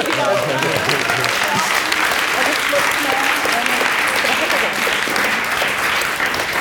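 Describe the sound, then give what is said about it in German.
Sustained audience applause at a live recording, a dense, steady wash of many hands clapping at once, loud and even throughout with no pauses, with faint voices mixed in underneath. “So, jetzt wird den Applaus.”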